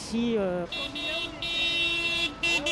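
Car horns honk repeatedly in a string of long, loud blasts, one overlapping the next, with traffic noise underneath, as passing drivers at a roundabout in France toot encouragement to yellow-vest protesters.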